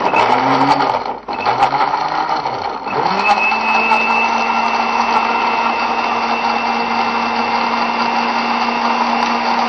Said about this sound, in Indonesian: Anggur yang sudah dipotong-potong ini baru kita blender bersama dengan bawang putih.